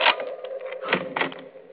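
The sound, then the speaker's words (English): A lock clicks and rattles as a bedroom door is unlocked and swung open, a quick cluster of sharp mechanical clatters with a muffled thump in the middle, no voices. “Oh, just a minute, I'll unlock the door.”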